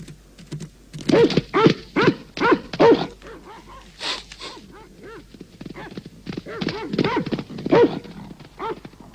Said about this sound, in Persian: صدای چی بود؟ چی شد؟ یه سگ؟